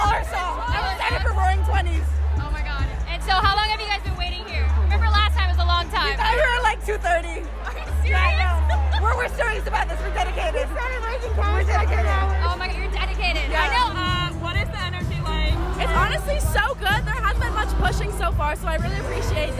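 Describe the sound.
A dense hubbub of a concert crowd waiting before the show, many overlapping voices chattering at once, steady and loud throughout, with a deep bass thump pulsing underneath in blocks as music plays over the crowd.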